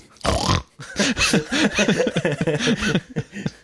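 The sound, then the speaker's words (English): A voice imitates Peppa Pig, giving a loud snort followed by a quick run of rhythmic oinks and snuffles, alone. “So, are you eating though? That's Peppa. That's for Peppa, because Peppa loves to eat.”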